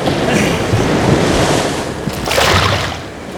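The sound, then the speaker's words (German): Loud, continuous roaring ocean surf with a broad wash of noise, swelling again toward the end as a wave breaks, with some wind buffeting. “Zwischen den tosenden Wellen schob Dylan das Brett zu ihm rüber.”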